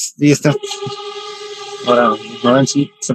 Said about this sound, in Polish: Pociąg, przyjeżdża. Nie wiem, czy było słychać. Zaryczeli klaksonem.